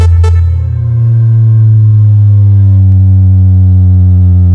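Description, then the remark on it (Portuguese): A loud digital test tone blares from the Equipe Alto-falantes Master Era loudspeakers with Tarups modules in Brazil, a steady low-pitched electronic hum with a buzzy edge, holding constant for several seconds after a brief click at the start, with no voices. “Som digital. Vou som dar digital.”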